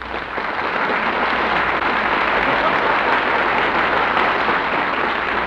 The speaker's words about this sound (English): Well, did you hear that, Dynamite? That applause was for you.